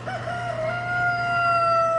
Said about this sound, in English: When a few hundred caged chickens are in the Pigeon Poultry Rabbit Building, they make it one of the louder places at the fair.